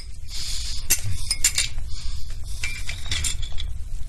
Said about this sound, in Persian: فنجان قهوه را برمی‌دارد، با قاشق هم می‌زند و می‌نوشد.